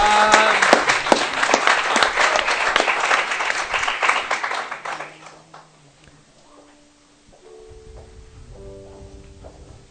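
An audience breaks into loud, dense applause for a group of young helpers, rolling on for about five seconds, then fading out, leaving faint tonal hum and quiet murmuring.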